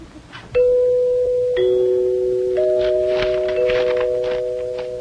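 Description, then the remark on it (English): Door chimes, hollow tubes struck by a plunger or striker when somebody comes to the door, ring out in three struck tones of different pitch, each sustaining and overlapping the last as the bright, clear notes slowly fade, with no one talking. “First of all, that there music is what you call chimes. Them's holler tubes that makes ringing sounds when struck by a plunger or a striker.”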